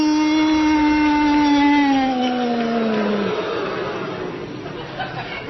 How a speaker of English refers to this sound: He introduced him to the crowd, I am very pleased to report, to a loud, long, heartfelt boo!